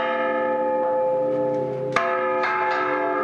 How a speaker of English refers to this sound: He says it's a tough job. It's a difficult bell to ring, he says, because it's heavy. You need to be strong and stubborn to make it turn.